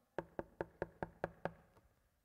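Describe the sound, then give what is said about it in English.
Seven quick, evenly spaced knocks rap on a wooden door in a steady rhythm, fairly sharp, each one thudding briefly before the next, with no voices; in a Bible story, Jesus knocks at the door of Martha's house. “And then Jesus knocked at the door.”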